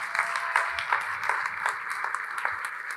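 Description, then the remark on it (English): A round of applause from a group for the kids who won a game, steady overlapping claps forming a dense, bright wash of sound with scattered sharper hand claps standing out, continuing for the whole stretch at moderate volume. “So give the kids a round of applause.”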